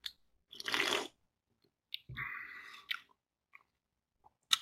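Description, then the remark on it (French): Mouth sounds of someone sipping a Coors Light Edge non-alcoholic beer: a slurping sip, a gulp, then a few small wet clicks and a final smack, with no talking. “Ben, comme disait ma grand-mère, c'est toujours la deuxième gorgée qui goûte le plus parce que la première sert à étancher la soif.”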